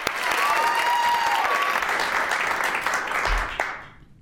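An audience breaks into steady applause, a dense wash of many hands clapping at once, holding strong for about three and a half seconds before quickly fading out.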